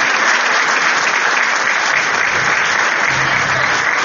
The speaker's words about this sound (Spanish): Un fuerte aplauso para ellos, por favor, que día a día luchan por los intereses del pueblo de Chacabuco.